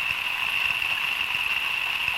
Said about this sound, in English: That's Zachpoff's Pond Station isolated. It's got hydrophones in the wave farm pond. As the rain is coming down, that's what it sounds like to the from the point of view of the aquatic animals.